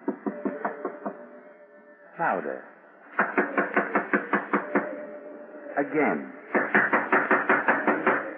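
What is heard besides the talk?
knocking on a door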